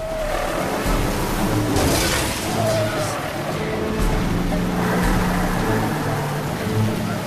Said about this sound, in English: The large pickup repeatedly rams the back of Simon's car as he struggles to stay on the road in the driving rain, his face contorted with fear.